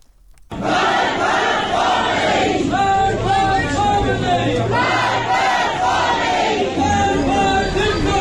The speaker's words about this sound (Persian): بر اساس ویدیوهای منتشره، ماموران روز گذشته در مراسم سوگواری سام بیرانوند، جوان تظاهرکننده 20 ساله، به معترضان حمله کردند در حالی که تظاهرکنندگان شعارهایی سر می‌دادند.